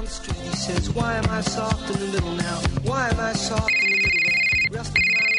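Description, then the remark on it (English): A telephone rings loudly, first with a bright melodic ringtone tune, then shifting into a steady electronic trill that cuts out briefly and resumes. No voices are heard. “Don't you dread that phone call?”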